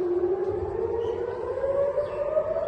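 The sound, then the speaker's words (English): An air raid siren in Israel, set off by a barrage of Hamas rockets fired from Gaza, wails steadily, its tone slowly rising in pitch over a constant background rumble, with no voices present. “Palestinian militant group Hamas on Sunday fired a barrage of rockets from Gaza that set off air raid sirens as far as Tel Aviv for the first time in months.”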